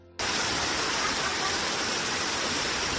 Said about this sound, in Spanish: En uno se ve cómo el conductor de un coche rojo intenta cruzar esa calle, esa gran riada, ¿y qué pasa? Pues que el agua lo arrastra.